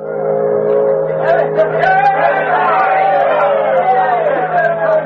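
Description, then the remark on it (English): A large crowd at a dock in Dawson City on the Yukon River cheers and shouts together in a steady, loud roar in clear air, many overlapping voices whooping over a low continuous hum as they greet the last steamboat of the season arriving. “Cheers cut through the clear air as the Bonanza Belle steamed into port.”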